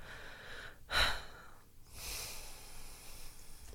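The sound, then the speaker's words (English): Heavy, loud breathing: a sharp, snorting inhale followed about a second later by a longer, hissing exhale, with no talking. “You know, you're breathing really loudly.”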